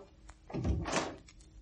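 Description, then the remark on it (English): A door opens: a dull low thunk followed by a brief rattling scrape, then quiet. No one speaks. “The instant he heard the door, the man below ran lightly up the stairs and waited in the shadow of a landing just above Trevelyan's flat.”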